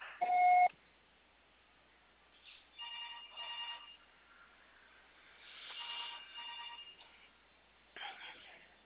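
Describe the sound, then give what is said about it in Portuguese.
A single loud, steady mid-pitched voicemail beep sounds at the very start, followed by muffled, narrow-band telephone voices speaking for several seconds. “Grave seu recado agora.”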